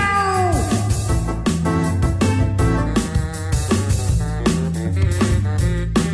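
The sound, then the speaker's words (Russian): A cat meows a few times, its drawn-out, falling cries sitting over a steady, loud musical backing with a rhythmic beat. “Кот Васька не стал дожидаться, пока они придут в себя. Он со всех ног кинулся прочь.”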